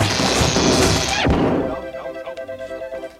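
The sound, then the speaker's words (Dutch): A loud, crashing impact as a small door is smashed open, a dense burst of noise that cuts off sharply, followed by a quieter stretch of faint rattling and rhythmic knocking. “Ja, dan zal ik dat deurtje er eens uitrammen.”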